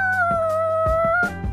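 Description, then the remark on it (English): A voice imitates car brakes screeching: one long, steady, high-pitched squeal held for about a second and a half, fairly loud, with a few rough pulses underneath and no other talk. “I slam on the brakes, and the car goes.”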